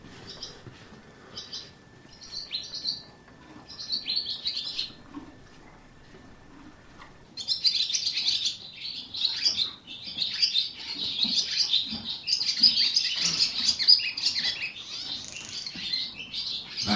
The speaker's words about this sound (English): Here we are, the oldest block of stables. And just walking in, 4 horses expecting breakfast with their heads over the door. And right at the end, I can hear a swallow singing.